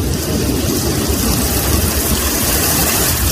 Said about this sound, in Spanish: La fuerte lluvia que ha traído la borrasca Aline y que ha estado cayendo durante horas.